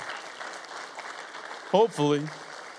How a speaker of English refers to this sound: And we are kind of a clap-happy church. So we're going to welcome you by clapping for you. So let's go ahead and clap for you.